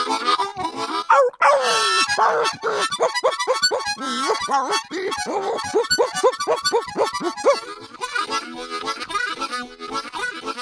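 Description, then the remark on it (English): A pack of bloodhounds barks and bays in a frantic, overlapping chorus, with drawn-out howling cries mixed among rapid barks, loud and continuing without a break. “There's having a barbecue over there, and the smell wafted up out of there, blew back over the train, over the convicts, right into the dog's nostrils, drove those bloodhounds crazy.”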